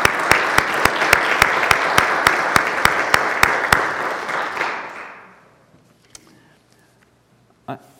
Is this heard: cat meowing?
no